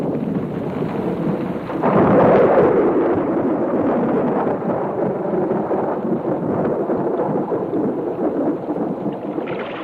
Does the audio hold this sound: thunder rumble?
yes